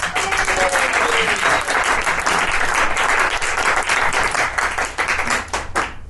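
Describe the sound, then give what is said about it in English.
A room full of people at a comedy gig applauds steadily to welcome a comedian to the stage, dense overlapping claps sustained at an even, fairly loud level, with a few faint voices and whoops mixed in. “Practice clapping, that's still what we're doing.”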